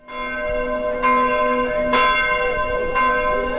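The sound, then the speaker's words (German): The church bells in Kelkheim-Hornau, in the Taunus about 20 kilometres northwest of Frankfurt am Main, Germany, ring out in a steady rhythm, with a fresh strike roughly every second over a rich, sustained drone of overlapping tones; fairly loud, no voices. “Die Kirchenglocken in Kelkheim-Hornau.”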